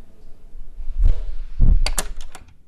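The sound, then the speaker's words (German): An office door opens and shuts as someone goes into the next office: two dull, heavy thuds a half second apart, then a quick run of sharp metallic latch clicks. No one speaks. “So, ich bin jetzt eine Tür weitergegangen in das nächste Büro”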